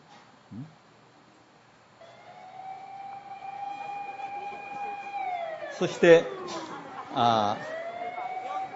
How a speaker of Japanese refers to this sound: いよいよ震災大地震の時に津波の警報が盛んになされたんです。